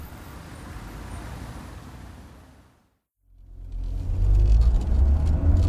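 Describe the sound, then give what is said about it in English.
A taxi car pulls up: steady traffic rumble fades into a brief silence, then a deep engine growl rises and holds loudly, with no voices. “Now, let's get a taxi and find a hotel. A taxi!”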